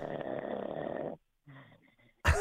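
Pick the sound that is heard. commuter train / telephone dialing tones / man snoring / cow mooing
man snoring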